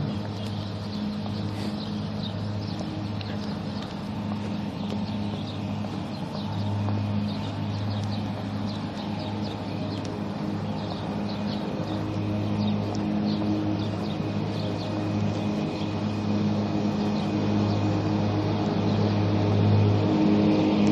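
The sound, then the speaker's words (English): A lawn mower engine drones steadily for the whole stretch, a low, buzzing hum with a constant pitch and even loudness, with faint chirps and ticks above it. “And here's the mower.”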